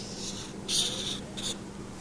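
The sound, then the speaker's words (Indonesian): Scratchy strokes of a pencil or crayon drawing on paper: a longer scribble followed by a short quick stroke, fairly soft over a faint steady background hum. “Gambar apa sih? Bikin. Beresin gambarnya, bikin apa?”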